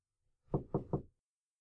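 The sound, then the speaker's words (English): Three soft, evenly spaced knocks on a wooden room door off a low-lit hallway, muffled, with quiet surrounding them and no voices. “lifts his hand, hesitating for a moment, before softly rapping at the door.”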